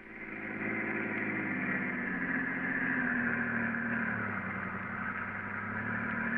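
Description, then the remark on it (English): A car's engine hums and drones steadily as two men drive along. A low rumble and constant road noise hold at an even, moderate level throughout. “The two men are now driving in Garrett's car with Peters, alias Harry Gordon, at the wheel.”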